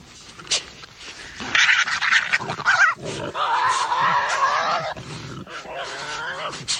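Harsh, raspy growls and screeching snarls from Tasmanian devils, loud, running almost continuously in overlapping bursts with no talking.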